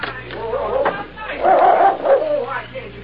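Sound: dog barking and whimpering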